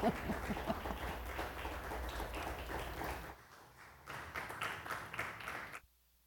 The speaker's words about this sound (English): Oh, you don't often get clapping before the scripture. That's pretty cool. I'll take that.